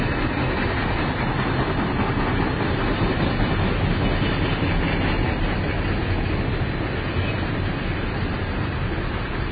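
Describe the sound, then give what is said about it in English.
A heavy freight train rumbles past, a loud, steady roar of rolling wheels and engine noise filling the whole stretch without letup, with no voices over it. “That's a freight train if I ever heard one.”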